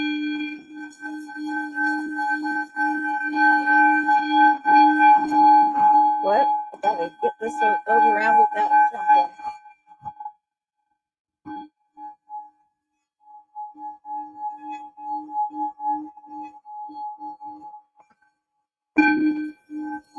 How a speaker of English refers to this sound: It sings and it's really just the vibration and the hum from the singing bowl.